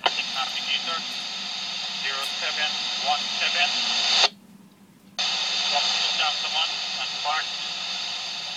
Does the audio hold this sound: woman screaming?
no